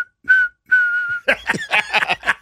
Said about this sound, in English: Don't stop whistling. Come on now.